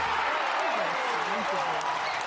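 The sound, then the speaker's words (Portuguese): Steady studio applause for the show's production team: a dense, even wash of clapping at constant loudness throughout, with a few voices or cheers rising and falling underneath. “Palmas para todos.”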